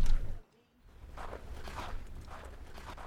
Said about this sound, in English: Sound of footsteps. It's snowing. Out here look all pretty.